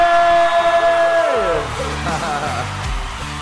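Steady held tones slide downward, then a loud crowd breaks into whooping, yelling and cheering that carries on to the end, with possible clapping mixed in, as a guest is welcomed into the studio on a breakfast radio show.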